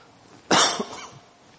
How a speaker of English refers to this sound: I've had a dry cough for about 4 weeks. It's not COVID. I've had a couple of negative tests.